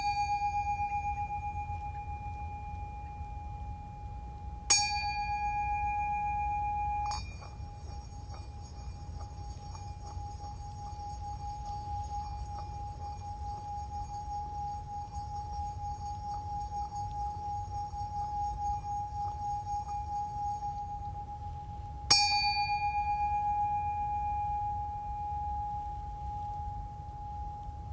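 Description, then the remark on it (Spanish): A Tibetan singing bowl rings steadily with shimmering overtones, struck twice more along the way, each strike brightening the tone before it settles into a long, sustained hum. No one speaks. “Y acá tenemos una campana tibetana. Y genera muchos armónicos.”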